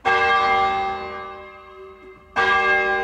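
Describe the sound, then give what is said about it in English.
Very big, deep town hall bells ring out loudly, one long resonant strike slowly decaying before a second strike lands near the end, rich overtones hanging in the air with no voices. “They're very big bells in the town hall, and that depth of sound was just magical.”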